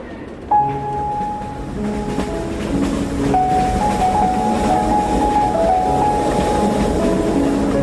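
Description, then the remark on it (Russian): A steam train, the Red Arrow, rushes through forests at night with a steady, dense rumble, puffing steam, as a long, sustained warning whistle sounds over it, shifting pitch partway through and holding on to the end. “Всю дорогу ей казалось, что красная стрела едва тащится, тогда как поезд стремительно мчался сквозь ночные леса, обдавая их паром и оглашая протяжным предостерегающим криком.”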